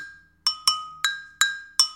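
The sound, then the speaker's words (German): An agogô, a Brazilian cowbell, struck five times in an uneven rhythm, bright metallic clanks alternating between two slightly different pitches, each ringing briefly before fading. No voices. “Dann gibt es eine Agogô, wie die Kinder sagen würden, eine Kuhglocke.”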